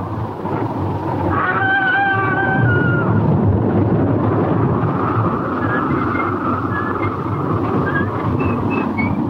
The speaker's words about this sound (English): The storm rages on.